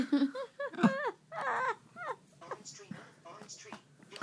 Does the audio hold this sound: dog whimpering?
yes